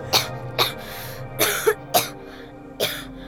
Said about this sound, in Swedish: Det var en förfärlig hosta. Det är lungsoten. Det går inte att bota. Lungsot? Ah, du menar tuberkulos.